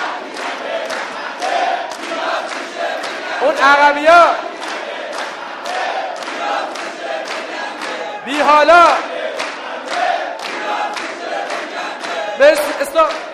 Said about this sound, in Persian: 3 2 1 دست میزنیم اینو میگیم. 3 2 1 هر کی نگه نخنده.